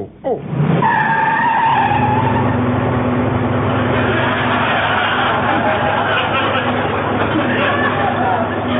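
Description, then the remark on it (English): Car tires screech in a high, wavering squeal as the car speeds off in Las Vegas, then a loud, steady engine roar and road rumble continue to the end. “Quick, Phil, into the car.”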